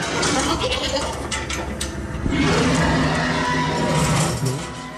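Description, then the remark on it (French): A loud, sustained T-Rex roar in the Jurassic World exhibition, as the T-Rex bursts from the forest to attack a goat in a cage beside a Jeep; a harsh rasping bellow with a bleating, throaty edge that surges even louder midway through and tapers off at the very end. “Une Jeep, une cage dans laquelle est enfermée une chèvre convoitée par le plus grand prédateur du Jurassique, le T-Rex, qui soudain jaillit de la forêt pour attaquer sa proie.”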